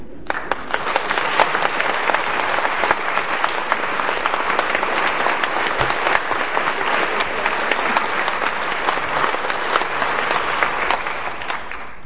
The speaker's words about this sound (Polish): Zauważyłem, że jak dosiądę do fortepianu, to oklaski się od razu kończą. Ja bardzo lubię oklaski.